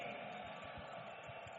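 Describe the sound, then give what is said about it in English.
A large standing crowd roars in a dense, continuous wash of clapping and loud shouts of praise to the Lord, steady throughout with no single voice standing out, sounding somewhat muffled. “Stand up on your feet and give the Lord a big clap and a loud shout of praise.”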